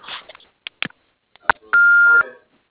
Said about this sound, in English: You have reached the office of Terry Irwin Architects, and we are unable to come to the phone right now. But if you'll leave your message after the tone, we'll call you back as soon as possible.